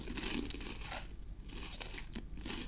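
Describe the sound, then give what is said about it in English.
Two girls wearing bikinis eat crackers with a steady run of crisp, dry crunches, several sharp bites standing out amid continuous noisy chewing, fairly loud throughout and with no talking. “Right, so we've got two girls eating crackers while wearing bikinis.”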